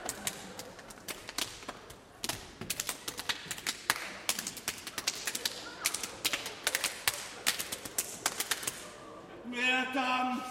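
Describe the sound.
Quick, crisp slaps drummed on a bare belly in a busy, uneven rhythm, some hits sharper and louder than others, before a voice briefly calls out at the end.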